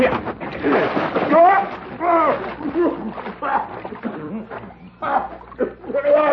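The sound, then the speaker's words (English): A man is dunked into a water trough at a ranch with a loud splashing, sloshing commotion, while excited voices shout and laugh throughout. “Maybe we ought to let him see the owner if he takes a bath first.”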